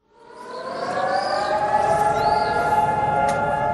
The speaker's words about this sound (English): Israelis stood still Tuesday for a two-minute siren commemorating the more than 23,700 Israeli soldiers killed, as well as more than 3,000 victims of terror attacks.